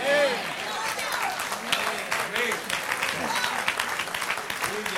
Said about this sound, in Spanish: No se oyen muchos aplausos, solamente de los piadosos. Amén. ¿Saben por qué no me aplauden? Porque no está de acuerdo a la manera de pensar de Dios.